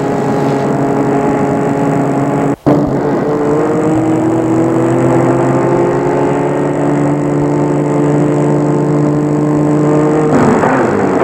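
A car engine hums steadily, its pitch shifting as the vehicle drives along and stops in front of an old two-storey house in open countryside, with a brief break early on and no voices.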